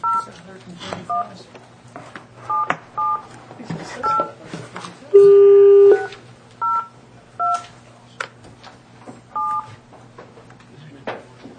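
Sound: telephone keypad dialing tones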